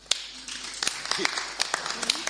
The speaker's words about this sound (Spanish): Un aplauso, ¿no?